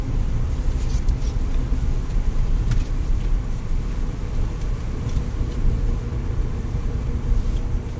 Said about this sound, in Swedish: Bussen far fram i natten. Bensträckaren i Ödeshög har gjort att alla har kommit till ro och somnat. Det sövande ljudet från däcken som rullar på asfalten är det enda som hörs.